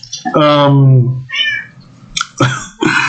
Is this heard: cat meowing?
yes